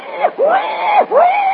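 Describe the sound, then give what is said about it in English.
A human voice imitates a wild boar's cry: two loud, squealing calls that swoop up and then drop, back to back with a brief gap between them. “The cry of the wild boar.”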